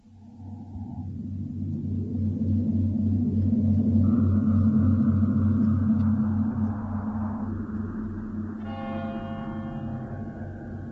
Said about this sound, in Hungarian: Mennydörgés. hogy messze villámlik.